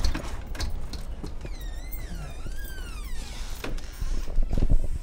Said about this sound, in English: We walk through a door on the most modern portion of the home.